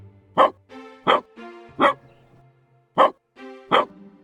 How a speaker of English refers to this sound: The puppy lets out a fierce, triumphant sequence of barks as the charge glows red. He's finally being heard.